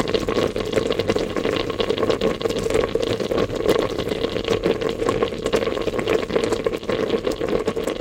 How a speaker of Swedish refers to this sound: Här hörde vi antingen gröt som kokar väldigt häftigt eller lyckan som bubblar inom vissa av oss kring jul. Lite beroende på vad man lyssnar efter.